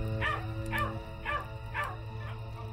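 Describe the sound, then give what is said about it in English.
A dog growls and barks, five sharp barks in a steady rhythm about half a second apart over a low, continuous rumbling growl, with no one talking. “By now, I lent actual credence to her signs, so that whenever she'd start growling, I would move to a new room or even pack her up in my car and drive off into town.”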